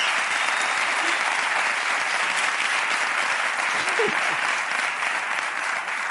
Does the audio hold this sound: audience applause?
yes